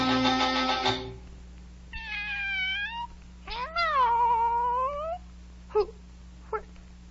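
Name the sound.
cat meowing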